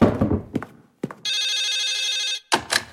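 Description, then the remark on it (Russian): A home landline telephone gives one loud, sustained electric bell ring lasting about a second, its rapid metallic trill clear, framed by clattering knocks before and a rustling clunk after. “Кто же еще по моему домашнему телефону будет говорить?”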